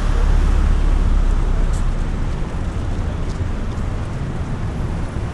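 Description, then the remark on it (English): Steady outdoor ambience on a street with little traffic, with a low rumble, as a car passes and its engine noise eases off after a couple of seconds. No one speaks. “Are we walking in the street? Everybody does that.”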